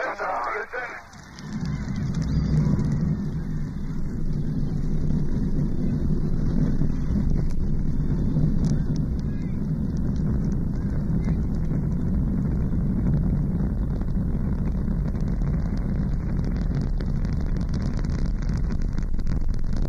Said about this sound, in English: T-minus 10, 9, 8. We have a go for main engine start. We have main engine start. 4, 3, 2, 1, 0.